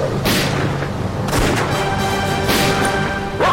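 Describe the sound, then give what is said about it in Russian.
Several loud carbine shots fired into the air in an irregular volley, each a sharp booming crack with a lingering echo, with no voices. “Карабины к бою! По моей команде стреляем в воздух!”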